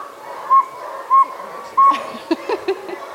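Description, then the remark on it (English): Three steady, evenly spaced high toots of a real saw-whet owl, followed by several shorter, uneven whistled toots as a group of people try to imitate the call, moderately loud. “Round of applause for all your owl calls.”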